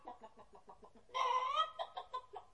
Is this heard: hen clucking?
yes